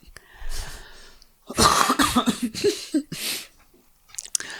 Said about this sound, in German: Jetzt muss ich so husten.